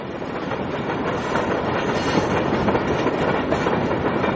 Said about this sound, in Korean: 버지니아의 한적한 농촌 지역을 달리는 기차는 더는 브레모 발전단지에 석탄을 실어 나르지 않습니다.